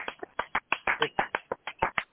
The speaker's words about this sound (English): Let's show her a round of applause.